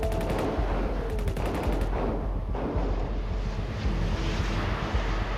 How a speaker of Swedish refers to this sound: Då hörs ljudet av skottsalvor. Det smattrar och smäller när kulorna från piraternas automatvapen träffar båtens skrov.